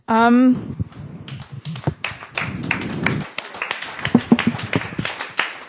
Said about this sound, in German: Also ich möchte mich mit diesem Applaus bei meinen beiden Gästen bedanken.